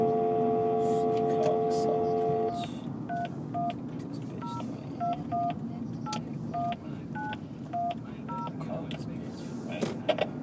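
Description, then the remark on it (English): A steady telephone dial tone gives way to a long run of short touch-tone keypad beeps as a long phone number is dialed, one number pressed after another in an uneven rhythm, clear over a low background rumble. “A lot of numbers in that phone number.”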